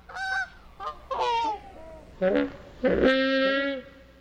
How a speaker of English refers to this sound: Take Jurassic Park. To create these mournful calls from the Brachiosaurus, sound designer Gary Rydstrom slowed down the honks of geese.